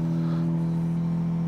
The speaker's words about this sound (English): I want to try to see if we could start this truck up. All right, here we go. It comes to life.